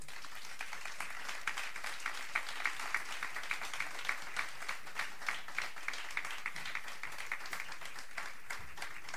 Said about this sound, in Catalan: que som el …, sí que m'agradaria, si no us fa res, demanar-vos un fort aplaudiment individual per aquests supermúsics que tenim avui sobre l'escenari.